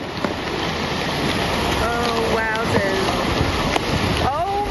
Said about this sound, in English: And one of the things that I've enjoyed the most so far is hearing the ship actually crunching through the ice.